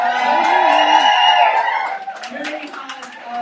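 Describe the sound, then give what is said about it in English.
An audience at a live show with acts and guest performers cheers loudly with high, sustained whoops and shouts, then the cheering thins into scattered clapping and calls over the last couple of seconds. “So please put your hands together.”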